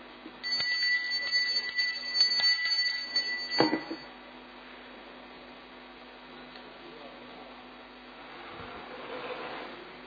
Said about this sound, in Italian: Sì, perché questo campanello non si sente tanto.